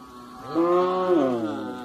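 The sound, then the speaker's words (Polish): A cow in a cowshed lets out one long, drawn-out moo, loud, holding steady before tapering off, with a faint hum of the barn behind it and no voices. “O, tu proszę, zobaczysz, tu jest obora żona do jej krowy.”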